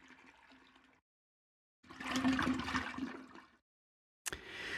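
A toilet flushes with a loud rush of swirling water lasting a couple of seconds, preceded by a softer watery hiss and followed by a sudden fresh burst of gushing.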